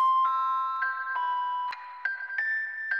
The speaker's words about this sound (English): That's not my ringtone.